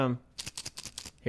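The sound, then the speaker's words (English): Probiotic pills rattle in a bottle in a string of quick, bright, clicky shakes lasting under a second, with a man speaking briefly just before and after. “the Foley was of pills in a bottle being pills in a bottle”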